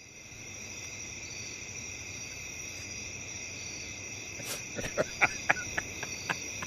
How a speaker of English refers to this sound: These crickets do sound like they're kinky, though. I'm into crickets.